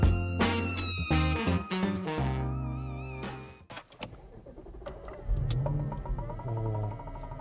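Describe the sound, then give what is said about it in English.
A car wing mirror knocks several times in quick, uneven succession over a droning motor whine, then quieter clunks and rattles follow as the whirring continues. No one speaks. “What was that knocking? Well, that was the mirror.”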